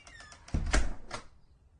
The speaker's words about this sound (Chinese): 雅丽莹开门走入。